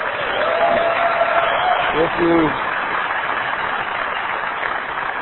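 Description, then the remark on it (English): Steady applause from an audience for a Christmas sermon message fills the whole stretch, a dense even wash of clapping at constant loudness, with a brief voice-like cry or whoop rising above it partway through. “If you applaud this message today, I want you to applaud the concept of a father that we were trying to get across.”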